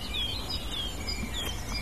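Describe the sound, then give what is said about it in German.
A warbler of the genus Sylvia (German 'Grasmücke') gives alarm calls, short thin high-pitched notes repeating irregularly over a steady hiss of background noise, with no voices. “Die harten Warnrufe der Grasmücke.”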